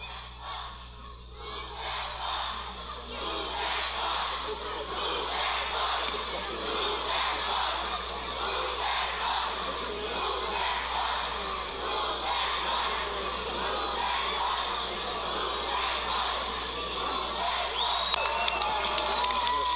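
A large outdoor crowd in Warwick cheers and claps in a steady, dense roar that holds at full strength for about twenty seconds, with scattered shouts rising out of the din, as a family arrives by limo to see their newly built house on Extreme Makeover.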